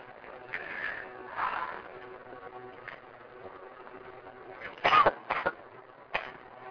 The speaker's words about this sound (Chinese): 好，那那个 我就有点咳嗽哈。